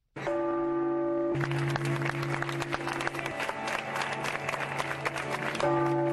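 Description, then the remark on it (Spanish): Sustained, resonant bell tones of the Cathedral of Havana, Cuba ring out while a dense wave of applause from a large crowd of Cubans swells over them in a last farewell to Cardinal Jaime Ortega y Alamino, then the bells emerge more clearly again at the end. “Con el sonar de las campanas de la Catedral de La Habana y un cerrado aplauso, los cubanos le dieron el último adiós al cardenal Jaime Ortega y Alamino, que falleció a los 82 años el pasado viernes 26.”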